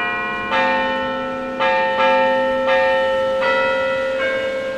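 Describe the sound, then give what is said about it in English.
Church bells ring out in a steady peal, each new strike layering over the lingering hum of the last, loud and resonant with no voices present. “Obviously, the sound of church bells.”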